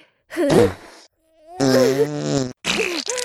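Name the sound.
fart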